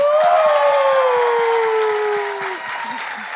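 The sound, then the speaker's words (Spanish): Loud, dense applause for people being introduced fills the whole stretch, with a steady whistling tone gliding downward over it before cutting out; the clapping eases slightly toward the end. “Voy a pedir un fuerte aplauso para los integrantes de este podcast que voy a presentar.”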